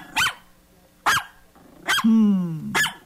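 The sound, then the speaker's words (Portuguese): A small dog, Joli, belonging to Roberto, barks four times in sharp, yappy bursts spaced about a second apart, with a brief whine or growl between the last barks. It sounds fairly loud, with no talking. “Parecido com o gatinho da Difusora é o cachorrinho Joli do Roberto.”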